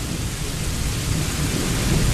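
Steady, dense rain hiss from a fake rain sound effect outside fills the scene with a deep low rumble of thunder rolling underneath, continuous and fairly loud throughout, with no voices.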